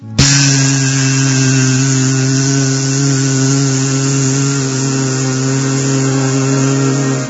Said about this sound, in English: Everything smelled so fragrant, and there were many bees, mad after honey, who were flying in the fragrant, cool and gentle breeze, and were making the bee sound.